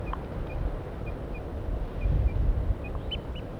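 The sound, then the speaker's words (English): A wild bird up in a pine tree gives a series of very soft, short toop calls and alarm calls at a loose, steady pace, faint against a constant low wind rumble, with slightly stronger notes near the end. “Very soft toops and alarms.”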